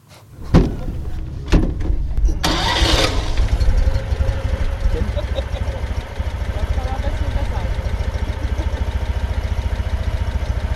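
A few sharp clicks and knocks, then an old car engine cranks and catches, settling into a loud, steadily throbbing idle that rumbles on to the end.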